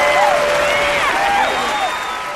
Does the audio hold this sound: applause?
yes